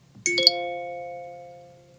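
A classic phone notification tone named Notitie (Note): three quick bell-like notes struck in rapid succession, then ringing on together and slowly fading for over a second, with a faint low hum underneath.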